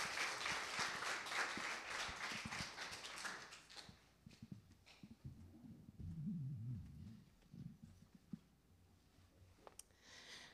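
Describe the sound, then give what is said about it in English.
A church audience claps steadily for a couple being congratulated, for about four seconds, a dense crackling patter that then thins out into scattered claps and a quiet murmur of low voices. “All right, let's clap for them just one more time.”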